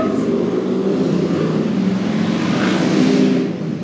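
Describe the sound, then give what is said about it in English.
A loud, steady engine roar of motorcycles passing outside dominates, droning and revving with no letup, its tone shifting slightly as it carries on for a few seconds. “Again, the motorcycle. There's been like a, I don't know if there's a motorcycle convention.”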